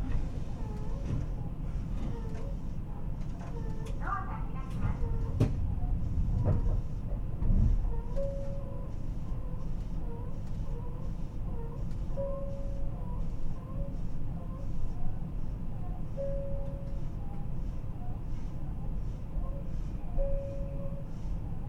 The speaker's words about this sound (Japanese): 列車着きました